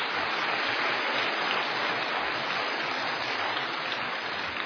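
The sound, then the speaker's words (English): A crowd applauds steadily, many hands clapping into a dense, even wash of sound that holds at the same loudness throughout, with no voices on top. “So we should give you all a round of applause, but wait till the end.”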